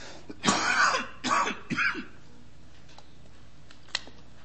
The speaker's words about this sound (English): I'm sorry. I've had a really tough time this week, guys. I'm surprised this is the first coughing fit I've had.